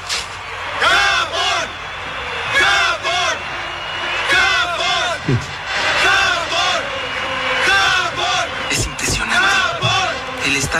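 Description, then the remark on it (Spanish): A large stadium crowd at a friendly football match in Japan shouts and cheers continuously, many voices rising and falling in overlapping bursts of yelling, loud throughout with no quiet moments. “Por el grito de los espectadores.”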